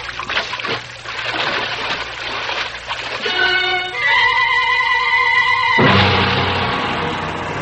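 A drawn-out, wavering cry rings out over rushing water, then a heavy splash as someone plunges into a river, followed by loud churning water that gradually settles.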